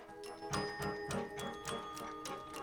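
Several clocks tick steadily in a clock and watch repair shop in Brooklyn, where a man is mending a timepiece; their overlapping clicks form an uneven rhythm over a faint constant hum, with no talking.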